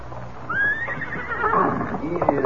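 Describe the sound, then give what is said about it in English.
A horse lets out a loud, quavering whinny that rises and trails off over a couple of seconds, while hooves clop faintly underneath against a low background rumble, as two men come out of a cafe to get their horses. “And two men come from cafe to get horses. Them not notice me.”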